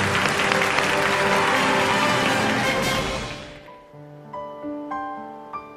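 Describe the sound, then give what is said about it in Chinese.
A burst of audience applause welcoming Academician Wang to give a lecture on space science, dense and steady clapping for about three seconds, then fading out as sustained musical tones take over and continue to the end. “那我们把讲台留给您，掌声有请王院士为我们开讲。”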